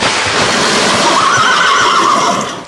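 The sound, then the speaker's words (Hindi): Horses stuck in a swamp whinny and neigh loudly, a shrill cry rising out of a constant rushing, churning noise that fills the whole moment before fading at the end. “साहब, साहब, घोड़े दलदल में फंस गया।”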